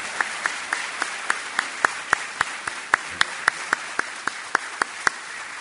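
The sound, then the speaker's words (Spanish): Applause from a crowd at an event marking 40 years of ONS, the Oficina Nacional del Servicio Civil: a dense wash of clapping with a steady rhythm of sharper individual claps standing out roughly every quarter second. No one speaks over it. “Este aplauso, por supuesto, que va en extensión a todos aquellos que han sido parte de estos 40 años de historias de ONS.”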